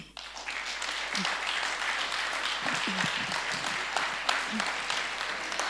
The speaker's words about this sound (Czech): Já bych chtěla, aby jsme v téhle chvíli zatleskali